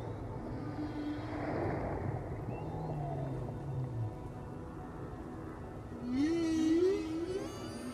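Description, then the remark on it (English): Humpback whale song from a flotilla of humpback whales at sea on their northerly migration up through the Pacific: low, drawn-out moans and gliding tones over a steady watery rumble, ending with a louder, wavering upsweep and a burst of higher, rippling tones. “That really is a beautiful sound from the humpback whales.”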